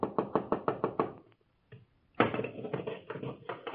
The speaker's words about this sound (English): Our story begins in the deep darkness just before dawn, when a hurried knocking sounds at the door of the house of Gamaliel, the teacher in Jerusalem,